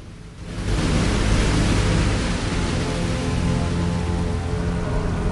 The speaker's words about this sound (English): Water cascades down a high rocky face.